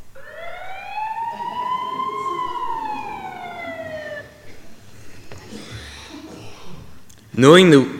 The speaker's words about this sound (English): Moments later, the sound of an ambulance siren broke the leafy silence.